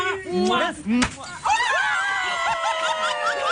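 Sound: confetti cannon going off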